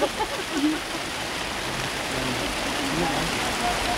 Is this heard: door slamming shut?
no